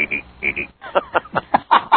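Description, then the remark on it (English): A man imitates a tree frog's call with his voice, a sound people often take for a cricket, a run of rhythmic, raspy pulses repeated about eight times, fairly loud, with no other sounds. “Most people, believe it or not, they say, let me hear the cricket noise, but it's really a tree frog.”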